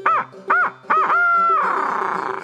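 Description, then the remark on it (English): A man imitates a barred owl: four loud hoots, three short ones followed by a long drawn-out note that slides down into a wavering, descending trill. “and from deep within erupted the most beautiful spine-tingling four-note barred owl hoot I've ever heard made.”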